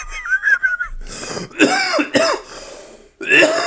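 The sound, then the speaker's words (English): A loud bout of coughing and throat clearing, several harsh rasping bursts in a row with a wheezy, breathy edge, and no other voices around them. “You like when people can hear you cough and clear your throat.”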